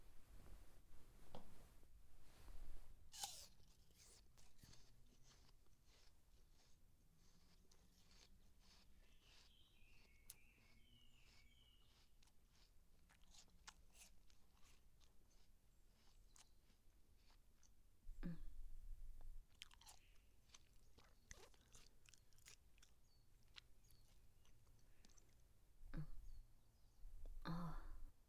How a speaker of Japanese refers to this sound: 私が咀嚼した後のものを口移しで食べさせた方がよろしいですか？